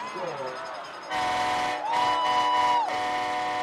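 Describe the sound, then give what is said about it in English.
A loud train horn blares in long, steady blasts from the visitors section of a stadium during a game, sounding each time the visiting team scores, over a dense, noisy crowd background, with a wavering tone at the start before the horn swells in and holds. “The Allen Eagles haven't lost a game all season, but every time the train horn sounds from the visitors section, it means the Hebron Hawks have scored.”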